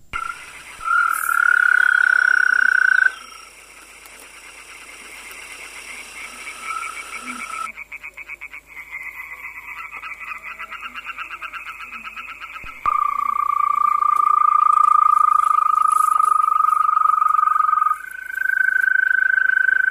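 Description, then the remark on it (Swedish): Green-spotted toads sing their mating trills at night in a quarry with high walls: long, steady, high-pitched trills of several seconds each, rising from a busy chorus of other toads calling in the background, some loud. “Paddsången ljöd fram till gryningen och ljudet förstärktes av de höga karkväggarna i brottet.”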